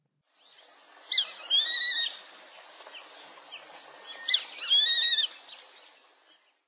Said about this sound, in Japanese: ホトトギスです。